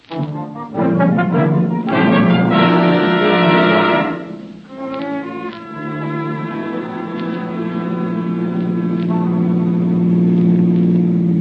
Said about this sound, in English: Hey, that car that just passed us